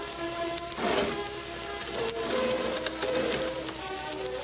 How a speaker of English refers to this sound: Then he heard the window being opened.